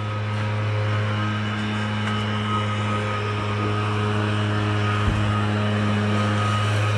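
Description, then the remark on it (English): Engines of a couple of really big trucks, used alongside a chipper and cherry picker by crews cleaning out under pine trees, rumble steadily, a deep continuous idling drone with no breaks, holding the same level throughout apart from a faint knock near the end. “Chipper, cherry picker, a couple of really big trucks to hold the crap, I guess.”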